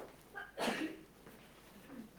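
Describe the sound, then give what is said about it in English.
A single sharp sneeze bursts out, a brief hissing explosion of breath that stands out against an otherwise quiet, faintly humming background before trailing off. “Gesundheit.”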